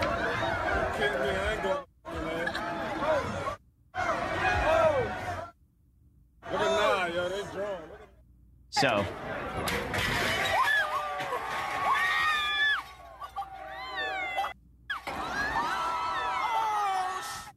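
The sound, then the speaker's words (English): A large, rowdy crowd of rioters cheers, whoops and shouts loudly in several abrupt bursts separated by brief silences, with excited voices rising and falling, as a hotel awning collapses after too many people climb on top of it. “Here is a little montage of people destroying convenience stores, smashing Macy's windows, collapsing an awning.”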